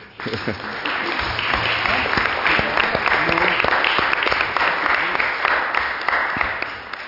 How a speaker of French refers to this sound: on peut les applaudir si...